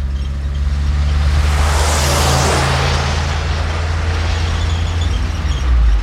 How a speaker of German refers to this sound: Ein Auto guckt uns entgegen. Seltsam in dieser einsamen Gegend. Fahr rechts, Richard. Dann kommt er vorbei.